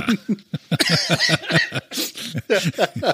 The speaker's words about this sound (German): hustet und ja. Bitte überleb, ja? Gerade so, ausnahmsweise.